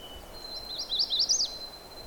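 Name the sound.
magnolia warbler song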